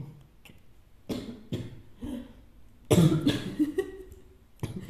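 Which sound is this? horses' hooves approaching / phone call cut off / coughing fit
coughing fit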